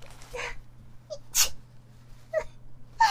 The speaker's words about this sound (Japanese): あ、やべ、くしゃみでしょ。